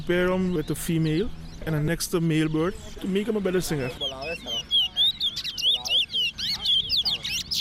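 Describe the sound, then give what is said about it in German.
A songbird sings a fast, bright run of high chirps and trills, clear, after a few seconds of low, voice-like sounds at the start. “So ein Vogel muss als guter Sänger geboren sein und der Halter muss das erkennen.”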